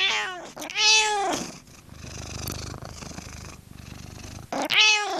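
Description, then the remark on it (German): A cat on a cat running wheel meows twice, at the start and the end, with a steady low rumbling purr running between the calls. Fairly loud, no talking. “Und dass beim Katzenlaufrad Könner am Werk waren, bestätigt der Experte auf Samtpfoten.”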